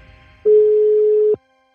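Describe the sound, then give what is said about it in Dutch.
A single steady electronic telephone tone, ahead of an awaited call from the jury chairman after a long pitch day, holds for just under a second, clear and fairly loud, starting and stopping abruptly before near silence. “Ze zitten na een lange pitchdag in ieder geval zeer gespannen te wachten op het telefoontje van juryvoorzitter Gerard.”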